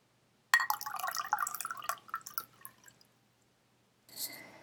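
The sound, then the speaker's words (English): Water pours into a glass to be served as a drink, a bright gurgling splash for about two and a half seconds that trails off into drips, followed by a brief clink or set-down after a short pause. “Water's probably a good idea right now. Okay, let me grab some for you.”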